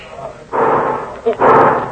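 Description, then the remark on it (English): Two loud gunshots, fired at a dog, ring out about a second apart, each a broad, rumbling blast that lingers briefly before fading, over a low steady background hiss. “Listen, me, Capitan. They shoot that dog. Yes, yes, I hear it.”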